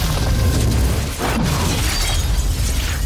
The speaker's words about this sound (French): Ça, c'est l'apocalypse. On est au début des années 60 et une guerre mondiale provoque de gigantesques explosions nucléaires. Toute la planète est dévastée. La Terre se retrouve saturée de radiation. Voilà le démarrage de Fallout